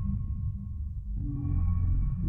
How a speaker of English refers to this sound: And the machine made a high-pitched beeping noise.